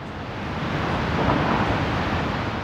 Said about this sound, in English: They looked up at a two-tiered cascade of water thundering over a cliff, kicking up a canopy of mist over those standing below.